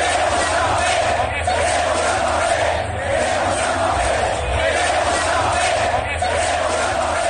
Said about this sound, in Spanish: Eso es lo que se gritaba esta tarde en el Estadio Santiago Bernabéu.